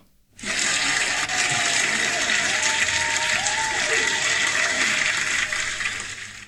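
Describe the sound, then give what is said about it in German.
Steady crowd applause sound effect played from a new soundboard, a dense wash of many hands clapping that starts abruptly, holds loud and even for about six seconds, then tapers slightly at the end. “Ja, für den Tobi hören wir mal aus dem neuen Soundboard jetzt dementsprechend das Applaus aus.”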